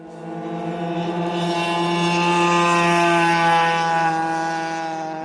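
A single lone motorcycle engine drones steadily after rain, swelling louder toward the middle as it nears, then fading slightly as it moves past. Its buzzing tone stays fairly constant, with no voices.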